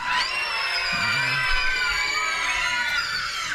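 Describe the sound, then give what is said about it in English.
A crowd of voices, many of them children, practises a witch scream together on a count of three, a long, sustained shriek, high-pitched and loud, holding steady for several seconds like a chorus of cackling witches. “We're going to need some help with some screams from the witches. You guys want to practice one scream?”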